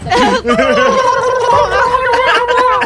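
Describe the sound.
A voice imitates the horrid, turkey-like noise of burning weasels during a role-playing game, with rapid gobbling and warbling, wobbly pitch sweeps and a throaty gargle, loud and continuous for about three seconds.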